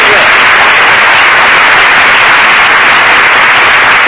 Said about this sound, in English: you could have come in a little sooner with the applause on that other joke. We'd have saved the wear and tear on the audience.